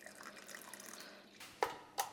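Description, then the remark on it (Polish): A small amount of still water is poured into chopped mango and banana about to be blended, a quiet trickling stream that ends in a couple of distinct drips and splashes. No one speaks. “Żeby nie było za gęste, odrobinę wody. Niegazowanej oczywiście.”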